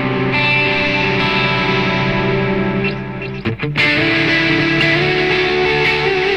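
A sustained electric guitar played through a delay effect rings out with thick, smeared repeats, a brief choppy strum midway before the washy tone swells back, loud with no talking.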